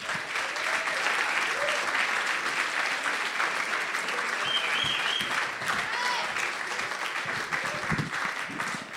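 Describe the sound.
Sustained audience applause at the Frog and Bucket comedy club as a representative of Dave Television and the club's owner are welcomed on. A dense, steady clatter of many hands clapping fills the whole stretch, with scattered whoops and voices faintly mixed in.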